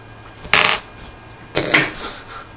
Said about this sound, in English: It's kind of hard to do that with a coin. No, you take two coins and rub them together.